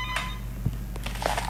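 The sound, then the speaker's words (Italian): A telephone call line trying to reconnect after dropping, with a steady low hum and static, a few brief clicks, and a short tone near the end. No one speaks. “Non abbiamo perso la telefonata e ecco, e forse ritorna.”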